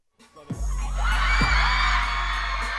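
A loud crowd of excited fans screams and shrieks together at VidCon, the YouTube convention at the Anaheim Convention Center, a dense high-pitched roar that swells after a couple of low thumps and holds steady.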